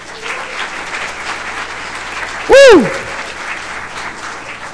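Audience applause, a steady dense patter of clapping throughout, with one loud, brief whistle that swoops up and back down partway through.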